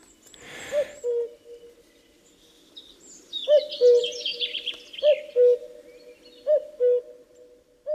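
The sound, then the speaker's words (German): A common cuckoo calls its clear two-note 'cu-coo' several times in steady succession while other birds twitter faintly in the background. “Und wenn der Kuckuck dann aus dem Süden zurückkommt, findet er hier keine bebrütbaren Nester mehr vor.”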